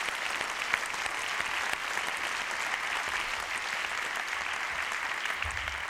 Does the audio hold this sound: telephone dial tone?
no